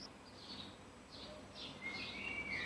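Birds chirp softly in the background of a recording made in a home in the middle of a city in mid-2011, a few faint high tweets and short trilling calls scattered over a quiet, steady ambience with no one speaking.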